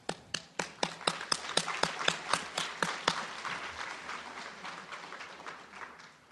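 Audience applause opens with a few sharp, evenly spaced claps, then swells into a dense, steady wash of clapping from a crowd that slowly tapers off. No voices are heard.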